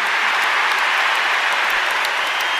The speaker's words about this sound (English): He managed to make them cheer again after he said, "Thank you, RKK."